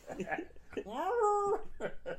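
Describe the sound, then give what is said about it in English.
A person imitates a loud animal howl, one long rising then held wail lasting under a second, full-voiced, with brief bits of talking just before and after. “You hear in the distance a large howling sound.”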